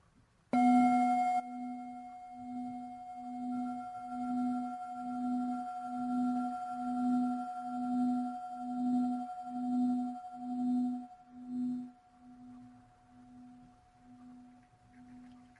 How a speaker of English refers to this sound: could you invite one sound of the bell for us?